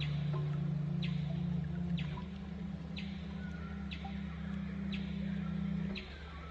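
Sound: parrots calling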